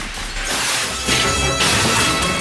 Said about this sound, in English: The glass doors to the museum are locked, so Edwards shoots them.